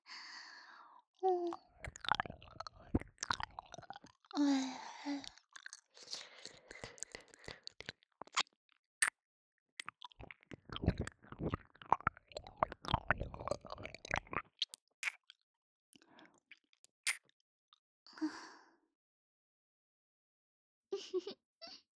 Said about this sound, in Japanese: 先輩のこと好きな私が勝手にペロペロしてるだけなんですよ。